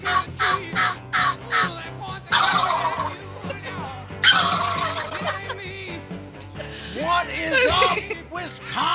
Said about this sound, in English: Turkey. I did not expect that.